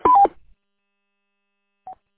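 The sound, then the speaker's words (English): A quick pair of electronic roger beep tones on a radio transmission at the start, a brief two-note chirp, followed by near silence and then one short, fainter tone near the end. “Radio check sounds real good, except you gotta turn off the Roger beep.”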